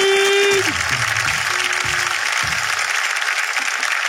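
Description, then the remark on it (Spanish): A comedy show audience at the Casa Interestelar de la Comedia claps loudly and steadily, a dense wash of applause with a few sustained tonal notes and cheering voices in the first couple of seconds. “¡Un fuerte aplauso al público!”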